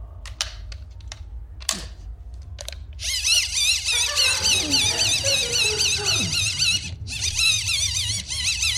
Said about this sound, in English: I just want to make it clear to the listeners at home, it's a wind-up torch. I'm not strangling a kitten. It does sound a little bit like I'm...